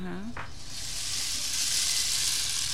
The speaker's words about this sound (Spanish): Y tenemos el palo de lluvia, vamos a escucharlo un poquito.